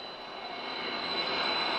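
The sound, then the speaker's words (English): A steady, loud roar of a jet aircraft engine, a broad continuous rush with a high whine, slowly swelling over a couple of seconds with no voices; a rock band's own jet arriving at Tampa Air Center, Tampa International Airport. “They travel with their own jet, waiting at the airport, two limousines, and a police escort.”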